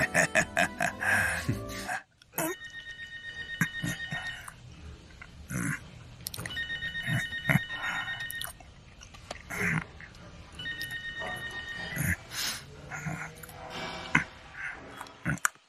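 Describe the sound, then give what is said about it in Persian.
A telephone rings in three long, steady bursts separated by short pauses, a late-night call from a nursing home in Sarasota, its bright electronic tone sounding over continuous background clatter and rustling. “از خانه سالمندان ساراسوتا زنگ میزنم.”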